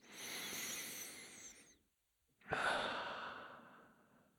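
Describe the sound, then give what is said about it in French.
During a guided breathing exercise, a long, deep breath drawn in through the nose, a brief pause, then a slow airy exhale through the mouth, soft with no talking; one of three deep breaths. “Prends trois grandes respirations. Inspire profondément par les narines, puis expire par la bouche.”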